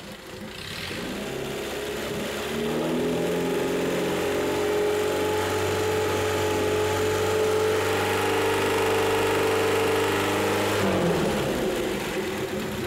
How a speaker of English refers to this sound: Let's see what happens when we bring the revs up.